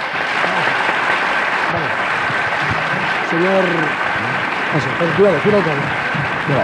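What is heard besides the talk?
theatre audience ovation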